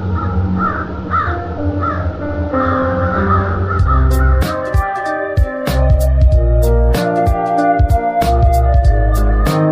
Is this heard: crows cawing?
yes